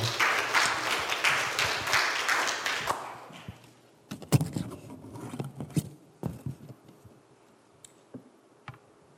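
A crowd claps steadily for about three seconds, a dense patter of many hands, then it thins into scattered individual claps and small thumps before fading to near silence.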